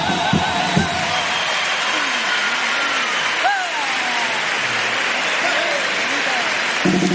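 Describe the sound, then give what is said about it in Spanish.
Audience applause after a first pasodoble performance, a dense and steady wash of clapping that holds for about seven seconds, with scattered voices and cheers rising over it. “Muy aplaudido, ¿eh?”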